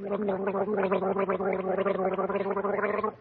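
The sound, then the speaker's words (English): A person gargles in a bubbling, warbling stream for about three seconds, a voice imitating a nightingale's song with rapid wavering trills over a steady throaty drone, then stops abruptly. “You call that goggle the nightingale song? Oh, but I was making the same sound as the nightingale.”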